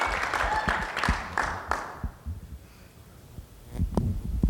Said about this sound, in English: Let's give the Lord a good clap offering right there in your home. Praise the Lord.